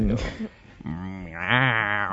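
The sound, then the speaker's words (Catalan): A person imitates a goat, letting out a quavering, wavering bleat that rises after a brief pause, fairly loud, with a short vocal sound before it. “A part de la gallina, també faré el lleó, la cabra, l'hipopòtam i el gat en cel.”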